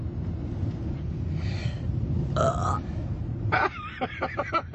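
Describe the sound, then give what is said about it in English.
A person burps after drinking a Coke: a loud, croaky burp rumbles out, followed a moment later by a longer, gurgling belch that stutters in pulses, all over a steady low background rumble. “Can you belch like burp? Can you burp?”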